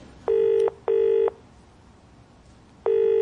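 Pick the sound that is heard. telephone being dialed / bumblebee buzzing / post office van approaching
telephone being dialed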